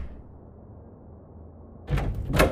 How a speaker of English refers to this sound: They march out of the front door and slam it behind them.